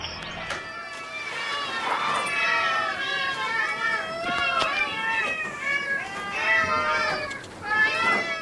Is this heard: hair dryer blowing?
no